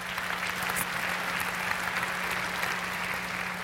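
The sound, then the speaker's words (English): An audience applauds steadily, a dense wash of many hands clapping that holds at an even level throughout, with a faint low hum beneath and no one speaking. “What begins, you can applaud that, yeah.”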